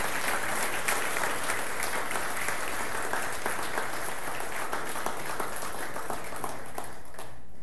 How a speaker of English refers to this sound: Closing this morning, I want us to give a round of applause to these adults that took all these teenagers and all these children to camp.